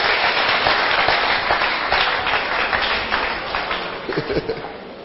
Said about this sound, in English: Clap your hands now.